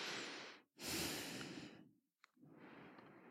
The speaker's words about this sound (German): Und wenn du merkst, dass deine Tochter dich triggert, dass du in das Selbstmitgefühl gehst, also wirklich liebevoll und einfach mal nur atmest und dich auf deine Atmung konzentrierst, einfach nur atmest.